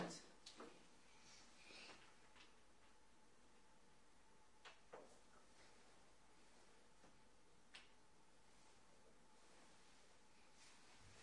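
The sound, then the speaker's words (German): A drawer is handled with a few scattered wooden knocks and clatters, sliding and bumping shut. “Das aber wieder in die Schubladen reinzulegen, ne?”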